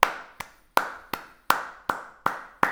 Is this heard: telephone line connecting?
no